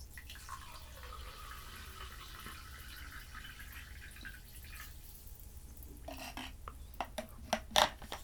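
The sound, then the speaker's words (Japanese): Homemade sparkling water from a home carbonation device pours steadily with a soft, hissing wash, then a few sharp crackles and small clinks near the end, fairly quiet, with no one talking. “注いでいきます。”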